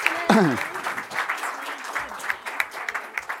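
A room full of people applauds steadily, a dense crackle of many hands clapping at once, with a short vocal exclamation rising over it near the start.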